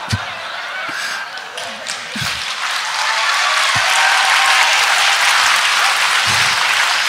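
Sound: audience clapping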